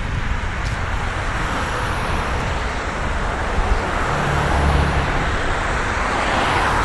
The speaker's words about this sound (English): Wow, this traffic is constant.